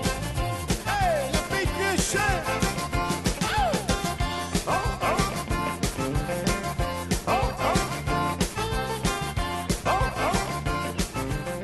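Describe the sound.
Over a loud, steady zydeco music track, a man's voice imitates a dog, letting out repeated yelping barks and howls that rise and fall throughout the song.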